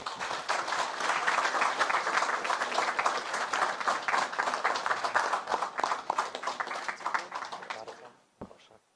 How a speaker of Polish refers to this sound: Wielkie brawo.